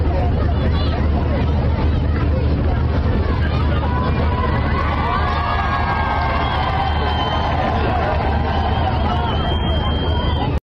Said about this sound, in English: But either way, something that actually surprised me was the Palestinian people actually cheering them on.